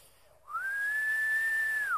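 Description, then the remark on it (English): A single sharp human whistle, loud, from a father summoning his kids, held at a steady high pitch for about a second and a half after a quick upward glide, then dropping off at the end. No one speaks. “And then my father, all he had to do was whistle.”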